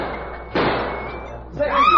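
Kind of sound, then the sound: sound effect, gunshot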